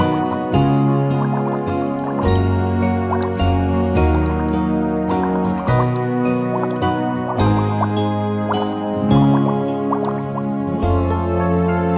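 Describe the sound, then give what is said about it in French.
Water bubbles pop and drip in quick, uneven bursts over a steady, tonal musical backing, fairly loud throughout, with no one speaking. “Les bulles.”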